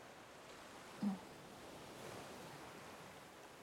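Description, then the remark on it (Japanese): Soft ocean surf washes steadily onto the shore, a low continuous rush with a slight swell near the start, heard faintly with no voices. “たまに会ったら一緒に歩いたり、こんな風に海眺めたりするだけで、それ以外に何かするわけでもないんだし。”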